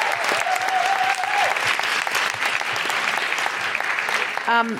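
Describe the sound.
Sustained audience applause, loud and steady for about five seconds, with a high whistle-like tone early on and a short voiced shout near the end.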